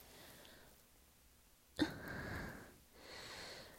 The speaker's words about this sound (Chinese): 衣柜里传来一声沉闷的呼吸声，离得最近的小哥顿时吓了一跳。